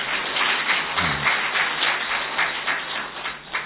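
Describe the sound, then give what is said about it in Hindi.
An audience applauds steadily, many hands clapping together in a dense, continuous patter of sharp claps that holds at an even loudness throughout, with no voices over it. “ताली बजा लीजिए, ये आपका भाग्य सौभाग्य।”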